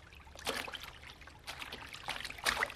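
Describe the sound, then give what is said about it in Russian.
Water splashes in a loose rhythm of repeated strokes as people swim across a narrow stretch of cold water to the other bank, moderately loud, with no talking. “Вода, вода. Тут не широко, переплывете? Переплывем. Прыгай, Валька.”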